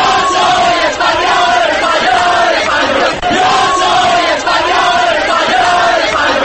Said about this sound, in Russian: Мы испанцы, слава Испании!» — скандирует толпа.